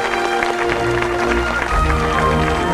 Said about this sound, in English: George and Betty smile, and Mr. Johnson claps vigorously.